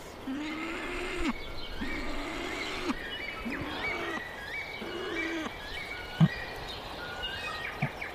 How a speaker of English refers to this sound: So that growling, is that just him reacting to those other birds calling? No, it's him saying, you know, calling his mate or the chicks, I've got food, here you go. That's his mate. So he can call with his mouth full.